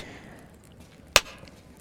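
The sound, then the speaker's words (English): A single sharp slap on skin cracks out loud, a crisp smack with a quick decay, with quiet background noise before and after. “Whenever I slap you, I swear,”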